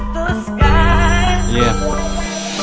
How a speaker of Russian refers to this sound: Пойми, тебе не нужен этот телефонный звонок.